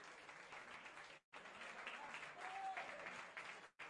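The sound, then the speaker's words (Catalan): The Vilà crowd at a football match applauds steadily as player Bàtic of Unió Esportiva Valls is substituted, a dense wash of clapping that holds for the whole stretch, broken only by two brief gaps, with faint voices mixed into the noise. “Bàtic, aplaudit pel públic del Vilà.”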